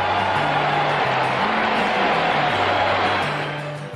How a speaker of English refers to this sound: Listen to the crowd, listen.